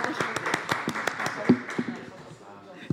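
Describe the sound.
A group at a meeting claps for about two seconds after a document is approved, a brisk scatter of sharp, uneven hand claps that thins out and fades, with a low murmur of voices underneath.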